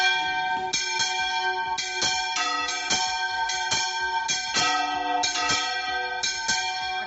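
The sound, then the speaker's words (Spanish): Church bells, like those of the Fadrí, peal continuously announcing the election of the new Pope Leo XIV, many overlapping strikes ringing out in a dense, clanging cascade with long shimmering overtones, loud, with no voices. “Las campanas, como las del Fadrí, anunciaron la elección del nuevo Papa León XIV a las 6:13 de la tarde de este jueves.”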